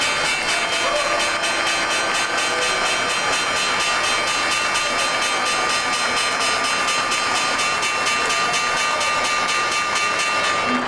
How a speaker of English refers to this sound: It's a bell, and it's a damn fine bell. To be respected.